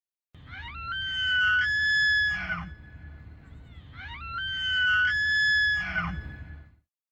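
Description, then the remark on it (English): An elk in the Smokies bugles twice in succession: each call rises into a long, piercing, whistling scream, then breaks into rough grunts, over a low rumbling background with no one talking. “I wanted curious opportunities to learn about animals that you don't see very often, like the bugling elk in the Smokies. What a strange sound that is.”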